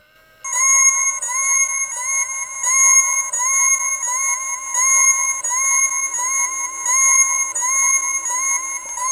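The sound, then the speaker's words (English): An electronic device with three front buttons and bright blue and yellow LEDs beeps in a continuous loop until a button is pushed again, a bright, high-pitched warbling tone pattern repeating about every second and a half, steady and loud with no voices. “I just have to push it again to get it to stop beeping. It just keeps going on a loop.”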